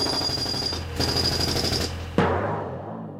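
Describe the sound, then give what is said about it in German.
A power drill whirs loudly and steadily for about two seconds, then cuts off with a sharp clunk as the motor winds down into a fading rattle. “Ich habe einen Bohrer.”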